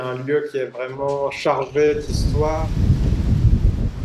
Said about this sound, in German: Draußen vor dem Kloster, unter dem blitzeblauen Himmel, zerrt der berüchtigte Wind der Provence der Mistral an den Bäumen.